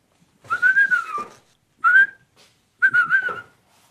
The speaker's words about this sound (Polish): Ja uciekam. Pan tu będzie gwizdał. Zapewne.